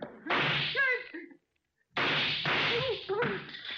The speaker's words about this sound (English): The door, you idiot. I fired at the lock.